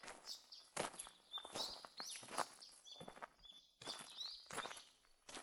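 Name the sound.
birds chirping outdoors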